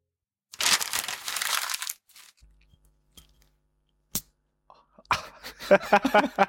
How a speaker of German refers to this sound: Warte. Was für ein Foley. Man hört, dass das billige kleine Glas ist.